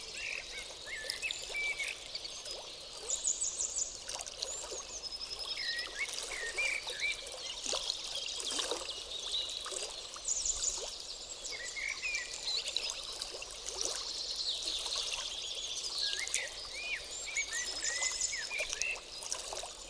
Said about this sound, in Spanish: Contempla también un arroyo cercano. Te acercas a tocar sus aguas. Siente el frescor del agua en tus manos.